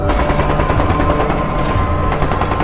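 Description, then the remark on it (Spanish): Rapid, sustained gunfire rattles on without pause, loud and dense, like automatic weapons firing in overlapping bursts amid a noisy, chaotic background, as soldiers, paramilitaries and snipers open fire on about 5,000 protesters in a plaza. “Y entonces empiezan los primeros disparos.”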